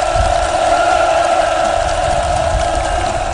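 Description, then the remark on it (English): A large crowd at Kim Jong-un's ribbon-cutting ceremony for the new town of Samjiyon, North Korea, roars and cheers in a dense, unbroken wall of noise that stays loud and steady throughout, with no individual voices standing out. “The crowd went wild.”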